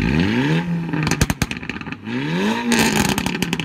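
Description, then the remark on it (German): A car engine fitted with a switchable exhaust valve flap revs hard twice, each loud rise followed by sharp popping and crackling from the exhaust as the throttle drops, aggressive with no voices. “Sogenannte Auspuffklappen, die klingen so.”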